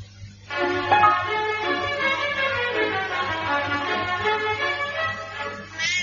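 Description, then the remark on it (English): A cat yowls in one long, loud, drawn-out cry that wavers in pitch for several seconds, over a steady low electrical hum. “Isn't there anywhere you can this place without squashing a cat?”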